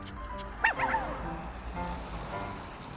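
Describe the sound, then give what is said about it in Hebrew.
A brown puppy lets out a quick burst of high, squeaky yips, followed by softer whimpering barks, over a low steady background rumble with no one talking. “ואת הכלבלב לוקחות בחמדה מתנת יום הולדת לנכדה.”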